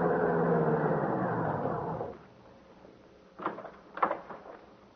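A big, shiny limousine's engine rumbles for about two seconds as it drives up at the waterfront, then dies away, followed by a pause and two dull thuds of a car door opening and shutting as a tall man in European clothes gets out.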